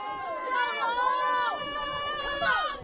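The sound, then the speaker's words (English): Steady, fairly loud ballpark crowd noise picked up by a crowd microphone during a ballgame, with many overlapping voices shouting and calling at once in a continuous roar. “Put our crowd mic on. It does get things quite a bit louder.”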